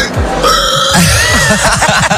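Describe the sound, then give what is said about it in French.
A person practising for a pig-squeal contest at a festival in Besse imitates a pig, starting with a loud, high, strained squeal and breaking into a rapid series of rough, low snorting grunts. “Et il y a aussi des animations, comme le concours du cri de cochon.”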